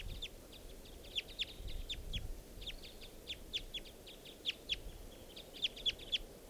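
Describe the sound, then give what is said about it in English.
A male wild bird calls in quick bursts of sharp, high chirps repeated steadily throughout, clear above a low rumbling background, with no talking. “I see a female. And that's the male calling there.”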